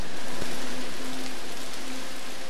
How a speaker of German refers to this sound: Zum Beispiel 68, eine Installation gebaut aus großen blauen Mülltüten, die jeder schon mal in der Hand hatte. 68 davon klingen dann so.